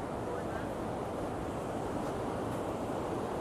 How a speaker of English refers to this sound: I just love the sound of the ocean. Constant roar behind you.